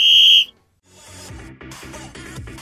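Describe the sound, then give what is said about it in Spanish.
A single loud, shrill whistle blast lasting under half a second, blown to start the program, followed by a brief pause and then busy music with a steady beat. “¿tienes el silbato a mano? Podemos adentrarnos en la tercera dimensión.”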